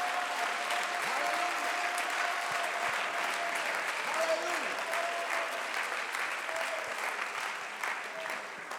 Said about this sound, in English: I want to stop for just a second. Clap your hands, lift your voice, give God some praise. Quiero parar por un momento, darle gloria al Señor.